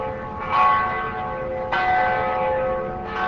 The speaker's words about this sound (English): After a minute of silence, church bells rang.